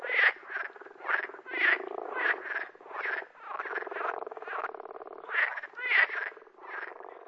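Frogs croak in a steady, rapid chorus, a dozen or so buzzy, pulsing calls overlapping one after another, with no voices present.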